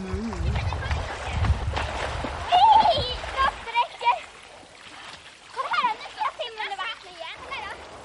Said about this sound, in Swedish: vad kul det låter när barnen leker.